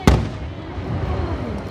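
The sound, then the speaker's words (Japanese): A single firework, a yae-shin henka-giku (double-core, colour-changing chrysanthemum) shell at the Katakai fireworks launched by Katakai Enka Kogyo, bursts with a sharp, loud boom, followed by a low rolling rumble and faint crackling as the echo fades across a clear, cloudless sky with a slight breeze. “八重神変化菊っていうね、種類のね、花火なんですね。”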